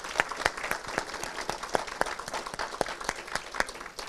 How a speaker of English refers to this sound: And so that's a lot of hard work. Let's just give a round of applause to the Lord for that.